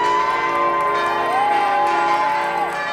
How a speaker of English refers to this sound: As we pass a Methodist church, bells ring out from the steeple.